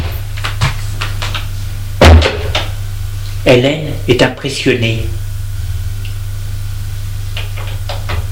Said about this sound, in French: La porte s'est ouverte.